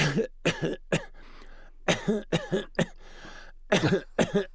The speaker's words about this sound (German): Und wenn ihr da euch räuspern müsst, würde ich vorsichtig sein mit Räuspern, weil das ist nicht so gut, weil das wie so ein Reibeisen wirkt, sondern hustet da eher ein bisschen ab. Man nennt das leichtes Abhusten. Das geht dann ungefähr so.